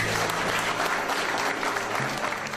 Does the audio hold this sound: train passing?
no